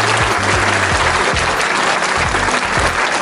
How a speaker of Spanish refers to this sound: De esta frase me voy a hacer autor y ¿sabes qué? Voy a dar un aplauso para ella.